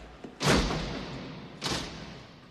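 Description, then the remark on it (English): A hockey helmet, thrown down by a player in the penalty box, slams down with a loud, hard thud, followed about a second later by a second, softer clattering impact, against steady background noise with no voices. “After throwing down his helmet, Charlie takes a seat.”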